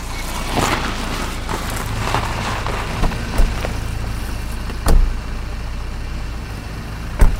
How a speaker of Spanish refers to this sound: Tres coches. Podían haber venido en dos.